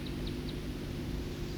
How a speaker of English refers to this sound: That was the flight call of the second songster.